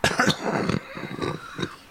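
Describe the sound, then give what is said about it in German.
A raspy coughing fit: several harsh, throaty bursts spread over two seconds, the first ones strongest, then trailing off, with no talking. “Ein Huster habe ich noch.”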